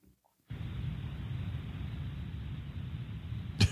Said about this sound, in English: This is a car sound. Shh. Everyone, so we got butt dialed. Sounds like a car.